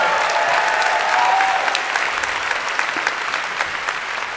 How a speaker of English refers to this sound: Another round of applause for the ….